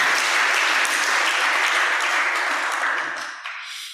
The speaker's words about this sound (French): Nous voulons seulement applaudir et dire merci à Dieu pour ce qu'il a fait pour nous.